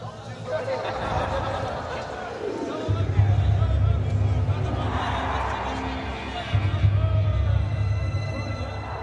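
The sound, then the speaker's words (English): A dense, roaring crowd fills the scene, many voices shouting and murmuring together in a continuous wall of noise that swells louder at moments, with no single voice standing out. “I heard his final words even amongst the roar of the crowd.”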